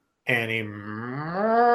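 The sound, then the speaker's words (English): A person gives a drawn-out, cow-like moo, one fairly loud sustained lowing call that swells slightly toward the end, with nothing else heard around it. “Animu? It's like a cow, right?”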